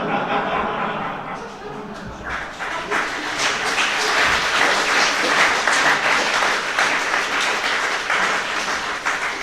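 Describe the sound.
A crowd applauds steadily, with dense, continuous clapping that swells slightly and holds at a fairly loud level throughout, with a few faint voices and laughs mixed in.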